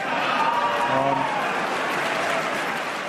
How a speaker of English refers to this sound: it was pretty clear watching that he was waiting for any little hint of a response there. And it was only probably about five people that clapped